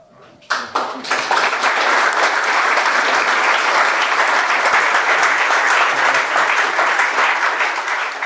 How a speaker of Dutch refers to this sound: Dat was het applaus van het enthousiaste publiek voor het verhaal en de vertolking.